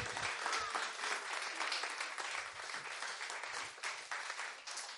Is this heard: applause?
yes